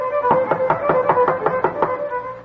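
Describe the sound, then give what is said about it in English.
A quick, evenly spaced series of about nine knocks on a door where young John Philip Sousa is practicing the violin, each knock sharp and short, with a steady sustained musical tone humming underneath throughout. “John Philip himself played the violin, and one day as he is practicing, opportunity knocks at the door.”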